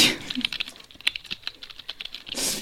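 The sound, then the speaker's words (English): Quick, irregular clicks of someone typing a text message on a slightly broken phone keyboard with a Russian Cyrillic layout, fairly quiet, with a soft rustle at the start and end and no talking. “Let me text him. Oh, God, your fingers are all over that thing.”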